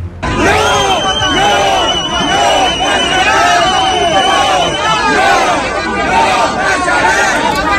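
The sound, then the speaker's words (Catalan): A crowd of many voices shouting and yelling at once in the streets of central Olot at midday on Saturday, during clashes between far-right protesters and antifascist groups; a loud, continuous wall of overlapping cries with rising and falling chants and no break in the noise. “Aquests són els crits que se sentien dissabte al migdia per als carrers del centre d'Olot.”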